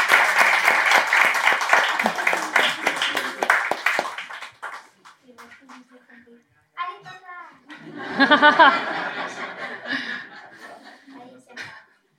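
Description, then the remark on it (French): At a baptism, an audience claps steadily for about four seconds for the man about to be baptized, a dense patter of hands that fades out, followed by voices talking and a bit of chuckling. “On peut l'applaudir.”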